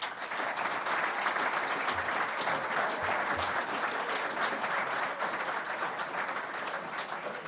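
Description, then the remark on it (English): Steady applause from a studio audience of Hampshire members and Radio Solent listeners at the BBC Radio Solent Hampshire Cricket Forum, a dense, even patter of many hands clapping at a constant level for the whole stretch, with no voices breaking through. “As you can hear, we're joined once more by a healthy number of Hampshire members and several Radio Solent listeners.”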